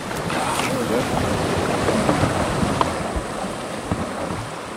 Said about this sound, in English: All right, push, better. We're off down the Petbury River, which tumbles and meanders through dense rainforests.